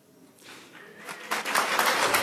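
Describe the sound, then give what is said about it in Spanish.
An audience bursts into applause that starts scattered and quickly swells into a full, steady roar of clapping, moderately loud and with no voices over it. “Mi idea era no cosechar aplausos, sino silbidos. Entonces me equivoqué.”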